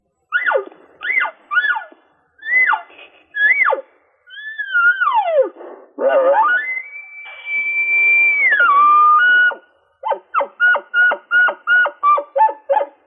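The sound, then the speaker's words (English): An elk game call blown in a series of cow-style mews and chirps: short rising-falling squeals, a few long sliding whines, then a quick rhythmic run of clipped high chirps, all loud with no talking. “I'll do that, but that package also includes our cow call.”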